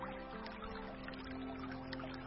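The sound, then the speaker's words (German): Water splashes and trickles steadily at a constant moderate level, a continuous babbling stream with small bright splashes, over a low humming drone. “Du läufst immer langsamer, behutsamer und das Geräusch, das Plätschern wird immer lauter.”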